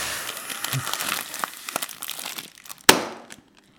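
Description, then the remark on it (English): Continuous paper crinkling and rustling for a few seconds as a person blows into a paper bag, ending in one sharp, loud pop as the bag is banged and bursts, then quiet. “Let me blow into this paper bag, and I'm going to show you what I mean.”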